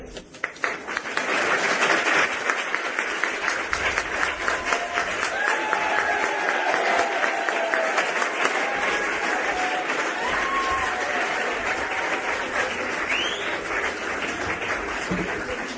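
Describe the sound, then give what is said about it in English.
A crowd applauds steadily with cheers and whoops mixed in, a dense, sustained roar of clapping that starts quickly and holds at a loud level throughout. “They're really getting it now, that if you like it, cheer thing.”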